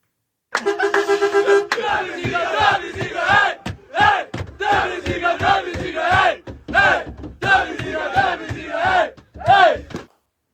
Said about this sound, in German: Also, weil man hat den Einblick in diesen Bus und da sind so etwas, ja, ich sag mal, aufgedrehte junge Menschen, also das Team, in einem Knäuel vereint und brüllen einfach am Anfang